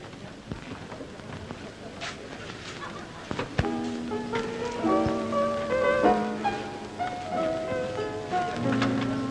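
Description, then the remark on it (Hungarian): A steady, dense patter of crowd applause for dancers runs throughout, with a sharp accent a few seconds in, after which sustained musical tones rise over the clapping and faint voices murmur. “Te, mit szólsz hozzá, tapsolnak? Nem nekünk, a táncosoknak.”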